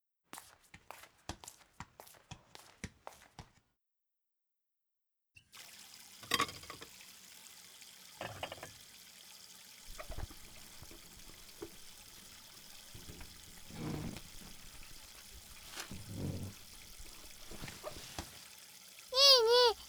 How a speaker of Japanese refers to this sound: お皿洗う。わかった、拭くのね。